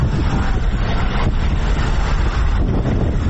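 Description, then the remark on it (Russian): A combat reconnaissance patrol vehicle of the Ukrainian Armed Forces' 59th Brigade rumbles steadily along a road as it heads toward the front line, its deep, loud engine drone continuous, with wind buffeting the microphone throughout and no voices. “Экипаж боевой разведывательно-дозорной машины 59-й бригады ВСУ выдвигается к линии фронта по той же дороге, по которой мы только что ездили.”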